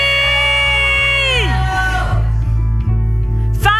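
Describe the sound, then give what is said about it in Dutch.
A large audience shouts loudly together in prayer, a sustained roar that swells and then trails off, with steady rhythmic thumping underneath throughout. “Elk ding wat we geroepen hebben, Heer, u heeft het gehoord.”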